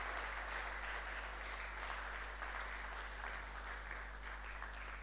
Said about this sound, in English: Oh, I think you should clap.